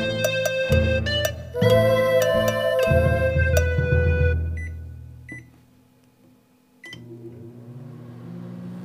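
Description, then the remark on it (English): A microwave oven beeps several times as buttons are pressed, then hums steadily while running, heating up cold eggplant; a short pause, clicks, and the low hum resumes, with no talking. “Well, okay, I'll heat it up, and then you eat it, okay? Okay, I'll put it in the microwave.”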